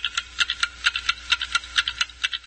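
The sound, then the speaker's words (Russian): Overlapping ticking from several antique wooden, metal and ceramic wall clocks, part of a home collection of more than 50 hung on the walls of a small apartment; crisp, irregular clicks layered into a busy, uneven rhythm. No voices, just steady mechanical ticks. “В его домашней коллекции старинных часов более 50”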